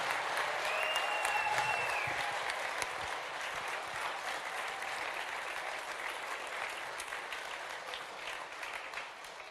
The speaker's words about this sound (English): Incredible. Incredible. Let's keep cheering